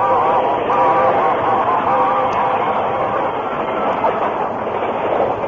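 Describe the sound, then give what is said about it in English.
A steam locomotive races past, releasing a cloud of steam, a loud, steady rushing roar with faint rhythmic clatter that fills the whole moment without letting up. No one speaks. “The train raced by, enveloping the Lone Ranger, Tonto, and the unconscious man in a cloud of steam”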